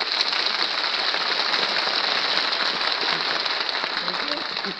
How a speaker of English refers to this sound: why is it you applaud every time you see me? Well, I can't help myself, Mr. Skelton. I just want to show you how much I do appreciate working for you.